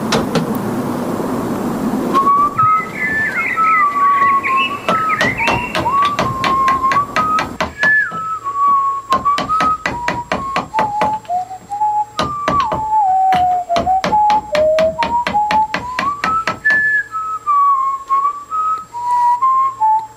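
A person whistles a wandering, fairly loud melody while sharp, rhythmic knocking strokes repeat steadily underneath, pausing briefly now and then; a burst of rough noise comes just before the tune starts.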